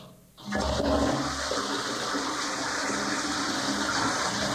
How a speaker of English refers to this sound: The next time you flush the toilet, think about the fact that what comes out of your body could be used to heat a whole community, but not without a considerable initial financial outlay.